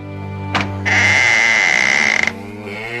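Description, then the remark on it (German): A single long, loud lowing call from cattle in a barn with a feed trough and water trough, starting low and swelling into a drawn-out bellow that fades after about two seconds, with no talking. “Hallo, ihr Rindviecher!”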